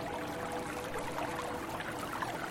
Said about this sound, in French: Vous fermez les yeux. Écoutez ce petit ruisseau à côté duquel notre groupe s'est installé.